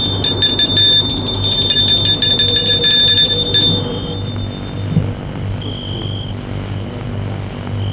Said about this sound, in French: Il va jusqu'à la maison. Sonne à la porte.